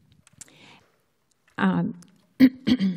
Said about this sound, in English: excuse me, I have a slight cough.